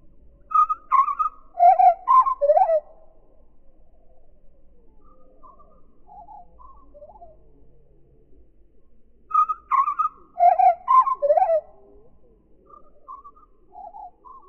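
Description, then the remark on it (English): Bird song slowed down to about one-eighth speed, heard as two bursts of low, sliding whistled notes separated by a long pause, each followed by a few faint, softer trailing notes, with no talking. “So to really appreciate the song, we need to slow it down to about 1/8 speed.”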